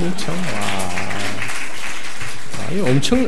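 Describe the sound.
An audience claps steadily during a worship service, a dense, continuous patter of many hands lasting a few seconds, with voices speaking and calling out over the applause.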